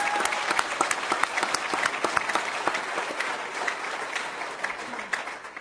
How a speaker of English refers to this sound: So let's give them a round of applause for the work they did.